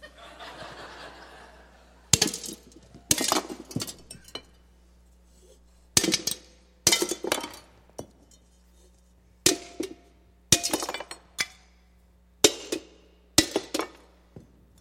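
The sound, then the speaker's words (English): A hammer gently taps repeatedly on clay jars, about a dozen sharp knocks at uneven intervals, some in quick pairs, with glassy clinks as they crack, chip and shatter. “I was just gently coming across. And what had happened? It cracked first, chipped, pieces fell off, and then in some cases it totally shattered.”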